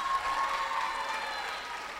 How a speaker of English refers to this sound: Next, round of applause, here we go.